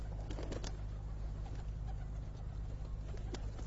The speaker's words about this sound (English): As I walk, in fact, I can see a large number of peacocks. You can probably hear the noise they're making. Also a large number of pigeons.